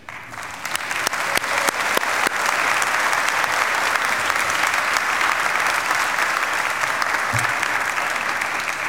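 A large audience applauds steadily in a church, dense clapping from many hands at a constant level for the whole stretch, with no voices rising above it. The applause celebrates a church member's 90th birthday.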